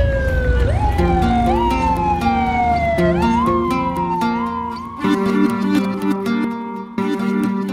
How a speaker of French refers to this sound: Décembre 2001, le convoi présidentiel de Hugo Chavez file toute sirène hurlante dans les rues de Caracas.